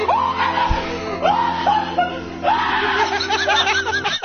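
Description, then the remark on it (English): A loud, startled scream of surprise at someone popping out from behind a door bursts out in a series of high, wavering shrieks with rising pitch sweeps, continuing almost without pause for about four seconds before cutting off. “screams when he is surprised, that scream in by itself is enough to cause severe damage to your internal”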